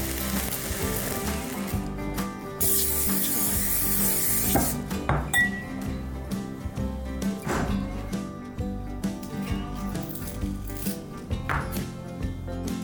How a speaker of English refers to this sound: The first step we're gonna do is brown this venison breakfast sausage.